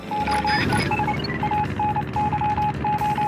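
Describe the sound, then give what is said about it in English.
A steady run of Morse code beeps from the lighthouse on an island in a video game, short and long tones in an irregular pattern, sounds clearly over a dense, noisy background wash with no talking. “These sounds are actually Morse code.”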